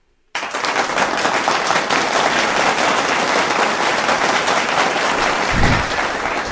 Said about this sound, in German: Ah, das Publikum wieder jung und wild. Mindestens 50 Leute im Studio. Gebt euch nochmal selber Applaus.